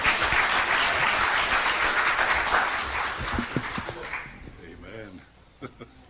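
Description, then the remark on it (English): Dense, steady applause with hands clapping for about four seconds during a church service after scripture is quoted, then fading out as voices and a few scattered sounds continue faintly. “She raised up that little girl back there and she was clapping her hands for them quoting the scripture.”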